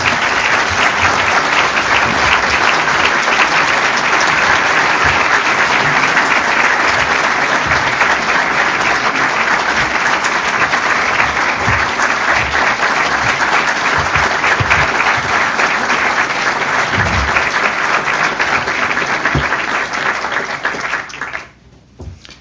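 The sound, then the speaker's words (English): Sustained applause from a large audience after a speech by the United Nations Secretary-General. A dense and steady wash of clapping stays loud for about twenty seconds before tapering off abruptly at the end. “General Secretary, the applause speaks for itself, but let me just add a word of thanks and appreciation for a very important statement,”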